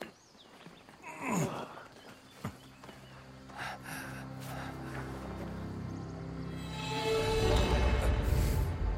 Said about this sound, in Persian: اون گاوه. همون گاوه است. یواش یواش برو عقب، خیلی یواش مرسی. چشم از چشمش بر ندار، برو عقب.